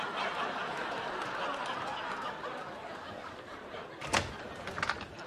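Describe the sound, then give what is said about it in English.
Over a steady murmur of background noise, a front door handle clunks as it is turned and the door is pulled open about four seconds in, followed by a few lighter knocks and rattles. “Could one of you get the door? Well, you've seen me do it enough times. You just turn the handle and pull.”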